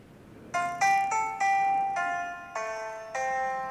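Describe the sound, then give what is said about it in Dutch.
A mobile phone ringtone plays the first line of a song by an Irish group as a bright, melodic tune of distinct electronic notes, one after another in a steady rhythm, fairly loud with no voices over it. “Ik weet niet of u ooit mijn mobieltje hebt gehoord. Het gaat lukken, luister maar.”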